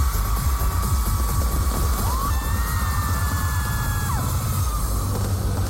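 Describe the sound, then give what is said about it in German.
Fireworks crackle and thump in rapid, continuous bursts beneath the steady roar of a crowd of about 60,000 fans at a public viewing in front of a huge LED screen, heard from a bridge, with occasional rising shouts and whoops cutting through the cheering. “Wie man noch das Feuerwerk im Hintergrund hört.”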